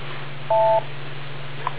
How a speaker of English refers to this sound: Wait for the beep.